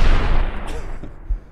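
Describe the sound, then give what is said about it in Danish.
Loud, booming explosions rumble, opening with a heavy blast that slowly fades, then a few sharper bangs punctuate the decay, like rockets and bombs going off in a fireworks barrage. “Der er noget raketter, der er noget bomber, der er det hele, mand. Det er ren nytårsaften, ikke?”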